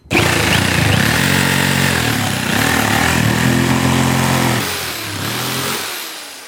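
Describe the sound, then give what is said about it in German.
A jigsaw cuts through wooden boards for building a sleeping house for a hedgehog, a loud, steady motorized buzz whose pitch sags briefly twice as the blade bites, running for about six seconds with no voices. “Cool, dürfen wir heute mit Stichsägen arbeiten?”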